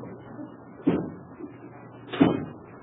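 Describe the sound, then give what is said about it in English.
Two dull thuds of a house's front door being shut, a little over a second apart, each a short heavy knock with a brief rattle, over a faint low background hum. “Was that the front door I just heard?”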